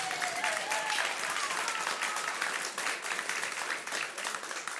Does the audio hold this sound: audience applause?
yes